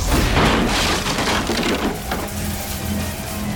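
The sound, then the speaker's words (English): A loud, violent burst of splintering wood and crashing debris roars for about two seconds as a door is blasted off its hinges, then settles into a lower rumbling clatter as fragments fall. “He was about to push through it when his door blew off its hinges.”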